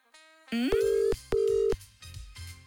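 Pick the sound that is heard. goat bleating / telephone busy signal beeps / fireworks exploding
telephone busy signal beeps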